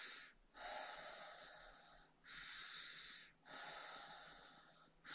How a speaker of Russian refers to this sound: То есть каждый раз, когда я ложусь в кровать, я обращаю все свое внимание на ощущения в теле и дышу определенным образом. То есть я дышу без пауз между вдохом и выдохом, да. То есть примерно так это выглядит, да.